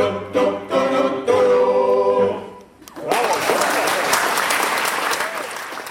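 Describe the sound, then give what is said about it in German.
A male choir sings a held chord that fades out, then an audience breaks into loud, steady applause that continues to the end. “Applaus für die Männerchöre, die weiter dranbleiben.”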